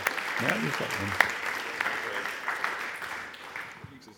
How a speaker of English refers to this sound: Why don't we give him a really, really warm clap and welcome as he comes and preaches the Bible to us.